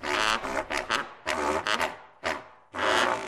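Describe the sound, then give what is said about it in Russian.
A faulty flute gives out four rough, raspy bursts, grunting and croaking instead of playing clear notes, with short gaps between the loud blasts and no one talking. “Она играть должна, она то хрюкает, то квакает.”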